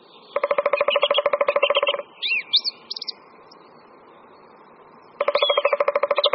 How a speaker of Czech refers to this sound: V pozadí nahrávky, kterou posloucháme, poměrně intenzivně zpívá drost zpěvů. Bubnování datlíka tříprstého je ve srovnání se strakapoudem velkým, který se často vyskytuje s datlíkem na společných lokalitách, delší a nápadně pomalejší.